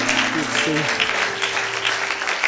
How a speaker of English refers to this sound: Just give him a hand clap of praise tonight. Amen.